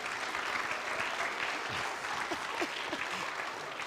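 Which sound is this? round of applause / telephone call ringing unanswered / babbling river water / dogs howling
round of applause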